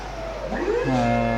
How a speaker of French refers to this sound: Donc là on arrive au chargement du camion.